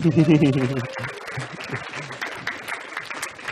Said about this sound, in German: Euer Applaus.